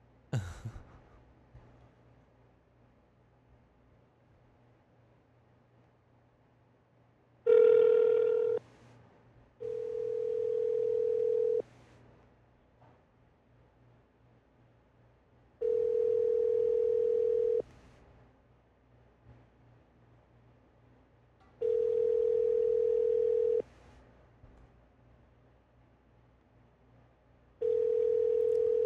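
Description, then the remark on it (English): An outgoing phone call's ringback tone repeats steadily, about two seconds of steady tone followed by a few seconds of quiet, five times over a faint background hum. “So let me cue the phone call.”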